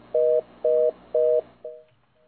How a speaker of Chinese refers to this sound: 好，咱的电话断去啊哈，嗯。